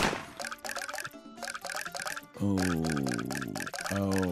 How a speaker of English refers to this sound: The faucet number one has emitted 11 drops. The faucet number two has emitted 10 drops.